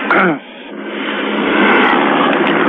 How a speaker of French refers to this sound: L'hélicoptère continue à passer au-dessus.